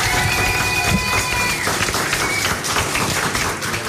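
Dense, steady roar of a live concert audience at La Cigale, with scattered clapping and chatter, loud throughout, with a thin high whistle-like tone sustained over the first second and a half.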